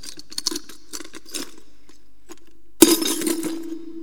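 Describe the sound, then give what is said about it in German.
A few light glassy clinks, then a sudden loud crash as a favourite scotch glass shatters, followed by a brief ringing scatter of shards. No one speaks. “Ich habe mein Scotchglas gebrochen.”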